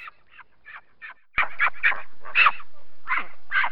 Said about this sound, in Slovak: A naše prednedávno narodené prasiatko.